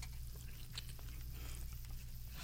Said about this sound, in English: And I hear the chew, so hopefully that's a good thing. Yeah. Oh my goodness, yeah, that's tender. You can taste the smokiness right there.